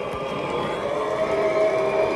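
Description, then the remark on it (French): A tennis crowd whistles at Cornet after she retires from her match against Zheng while trailing 6-0, 3-0. Shrill, sustained whistles ring out over a steady, loud crowd roar with no break for the whole moment. “Elle vient, elle joue et le public la siffle.”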